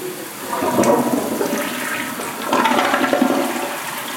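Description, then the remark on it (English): A hotel bathroom toilet on the Strip flushes with a broad, rushing whoosh of water that swells twice over a few seconds, loud and steady with gurgling throughout, and no voices; the water is treated and sent back to Lake Mead. “And I'm flushing the toilet.”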